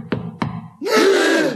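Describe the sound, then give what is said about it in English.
Two firm knocks on a door in slow succession, followed by a loud, sustained groaning sound that swells and fills the rest of the moment. “Is someone at the door, sir?”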